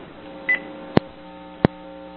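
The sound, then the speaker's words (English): A short electronic phone beep, then two sharp clicks spaced under a second apart, like keys being pressed on a phone as someone switches to another phone because of a low battery, over a faint steady hum with no one talking. “I'm going to change phones so I don't lose anything.”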